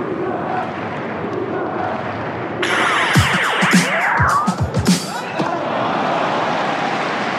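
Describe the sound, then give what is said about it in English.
A tennis crowd at Roland Garros in Paris roars and cheers in a dense, steady wash of noise, swelling midway with a louder burst of shouts, sharp claps and rising whistle-like sweeps before settling back. “Who are they cheering for?”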